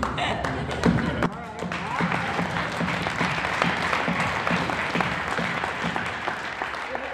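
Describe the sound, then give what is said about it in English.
A crowd applauds steadily for about seven seconds, a dense, even wash of clapping mixed with cheering voices, holding a fairly constant loudness throughout. “You bring your own cheering gallery, it's going to all work out.”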